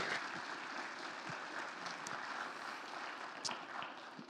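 A crowd applauds steadily, a dense wash of many hands clapping at once that stays full and even throughout, with no voices rising above it.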